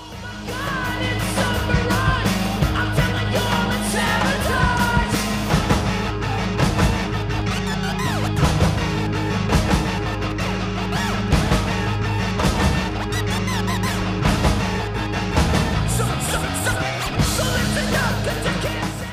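A heavily distorted electric guitar grinds through a loud, dense rap rock track, with pounding drums and crashing cymbals driving a steady, aggressive rhythm throughout.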